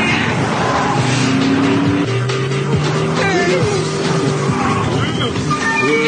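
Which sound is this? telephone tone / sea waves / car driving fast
car driving fast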